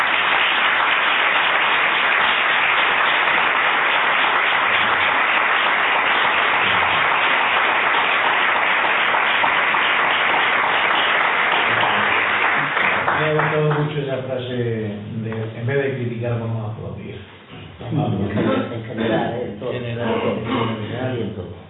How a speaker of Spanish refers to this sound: Yo antes de empezar a hablar, si os parece, pediría un aplauso para él.